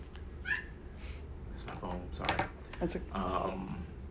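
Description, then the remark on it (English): A phone ringtone that sounds like a kitten meowing chirps a few short, high mewing tones, moderately loud, while people talk over it. “that's my phone, sorry.”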